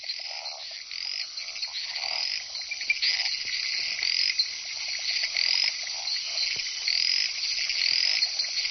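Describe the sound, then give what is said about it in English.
A dense chorus of jungle frogs in a humid rainforest croaks and chirps continuously, many overlapping high-pitched calls layered with a steady insect-like buzz, fairly loud with no voices. “Living in such a humid environment means jungle frogs are less tied to puddles and pools, and these even lay their eggs out of water.”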